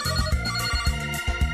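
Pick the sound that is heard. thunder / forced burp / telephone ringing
telephone ringing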